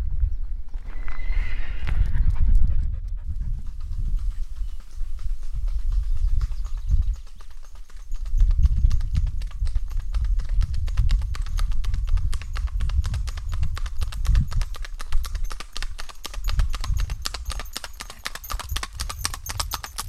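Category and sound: animal, horse hooves clip-clopping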